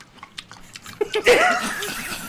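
Close, crunchy chewing clicks tick along for about a second, then a louder voice-like vocalization, almost a chuckle, rises over continued munching noise.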